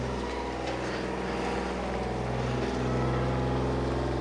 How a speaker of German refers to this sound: Ein Traktor. Ich weiß nicht, ob der Traktor den gezogen hat. Ah ne, der hat einen Anhänger hinten dran.